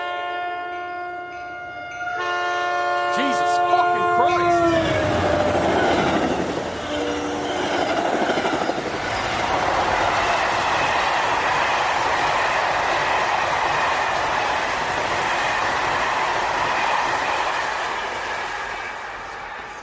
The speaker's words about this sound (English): Eventually, I was able to go back to bed, but then at 3, another train passed.